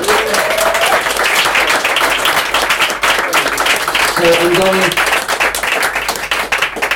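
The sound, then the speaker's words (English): An audience gives a sustained final round of applause for the guests, dense overlapping clapping that stays loud and steady for several seconds, with a few brief voices or whistles poking through the noise. “And a final round of applause for our guests with a unique piece of work, in my opinion.”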